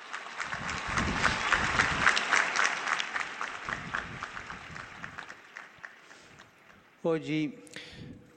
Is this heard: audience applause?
yes